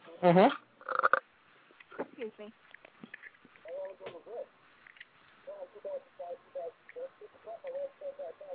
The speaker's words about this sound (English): I have nothing going on. I just burped, and I've been coughing. That's about it.